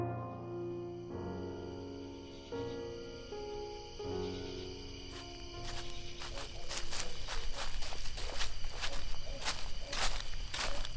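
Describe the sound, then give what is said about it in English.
Steady footsteps crunch along at a walking pace through a cemetery in darkness, starting midway and growing louder, after a sustained, held musical tone fades out underneath. “Why must we snake our way through the cemetery without a torch?”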